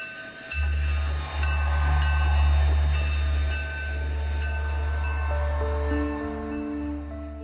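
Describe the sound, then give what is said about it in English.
A train rolls steadily along the rails with a loud, continuous low rumble, faint metallic whines and squeals riding above it throughout. No voices. “So he got on the train, leaving her on the platform in her best clothes with her bags.”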